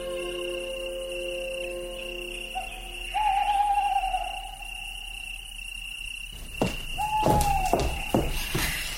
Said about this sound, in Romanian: Ascultă, e bufnița. E clopotarul sorții ce-și cântă fiorosul noapte bună.